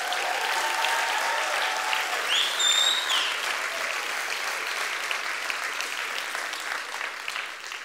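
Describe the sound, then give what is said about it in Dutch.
An audience claps steadily for about eight seconds for a row of people, a dense, even wash of applause that fades slightly toward the end, with a brief high whistle cutting through early on. “Laten we ze een applaus geven.”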